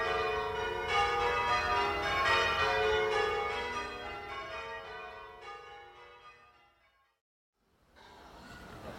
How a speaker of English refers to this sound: Let's sit and enjoy the bells.